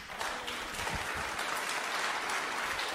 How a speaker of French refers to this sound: Oui, vous pouvez vraiment l'applaudir. Hein. Vous pouvez vraiment l'applaudir parce que ouais, c'est.